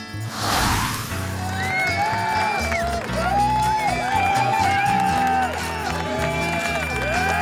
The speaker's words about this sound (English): That was a very nice applause I got there. Yeah. Do you know what? Everyone gets the same applause.